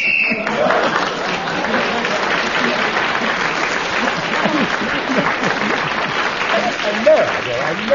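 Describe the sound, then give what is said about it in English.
A short, shrill game show whistle, signalling that a contestant's 60 seconds are up, sounds at the very start, immediately followed by steady, sustained applause from an audience, with some voices mixed in, lasting several seconds. “He was running out of steam, out of words and everything else, and he almost collapsed, and the whistle saved him, which of course tells us that 60 seconds is up,”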